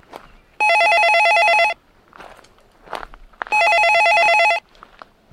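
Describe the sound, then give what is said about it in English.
A phone line rings twice as an outgoing call to a university student health center connects, placed from an arboretum full of trails behind the university; each ring a steady, loud, buzzy electronic tone lasting about a second, separated by a pause with faint rustling and footsteps. “And I went out into this arboretum to make my phone call about my pap smear appointment.”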